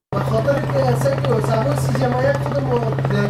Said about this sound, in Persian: این صدای قلیان یا چلم است که بخشی از جوانان در این کشور از آن استفاده می کنند.